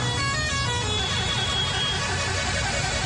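A dense chorus of car horns blares continuously at once, overlapping tones layered over rumbling street traffic, loud with no pause, as crowds of football supporters in Senegal's green, yellow and red celebrate the African champions in the streets, with a parade of hundreds of moto-taxis.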